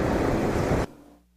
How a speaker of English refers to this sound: We can choose to look at that, or we can choose to look at the waves, the thunder, the waves crashing into the boat.